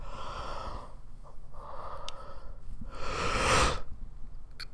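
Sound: yawning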